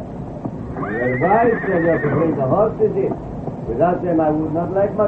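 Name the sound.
horse neighing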